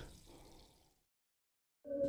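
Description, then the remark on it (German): Water is poured into a glass in a short, splashy rush lasting about a second, fading into silence before a brief, louder humming tone cuts in at the end. “Hier noch einen Schluck Wasser.”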